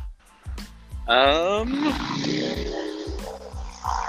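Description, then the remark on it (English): A motorcycle engine revs up sharply and roars past, loud, its whine rising then settling into a sustained rumble over a steady, low rhythmic thumping. “Is that a motorcycle?”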